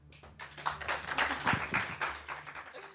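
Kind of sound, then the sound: crowd, audience applauding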